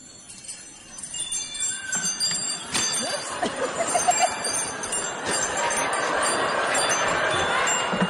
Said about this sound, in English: it's wind chimes. Floating on the breeze, wind chimes. Tickling the trees, wind chimes. The sound of angels, ballet dancing, wind chimes.